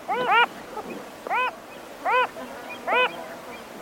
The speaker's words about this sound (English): The dictionary defines anomaly as something difficult to classify, a departure from the rule. If any bird meets that description, it's the Wilson's phalarope.